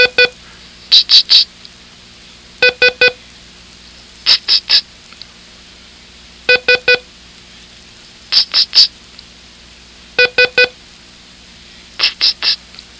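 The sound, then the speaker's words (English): The Morse code letter S sent on a code key: clusters of three quick, identical dot beeps, repeated about a dozen times at an even pace with short pauses between groups, with no talking. “Listen to it carefully as I send it on the code key.”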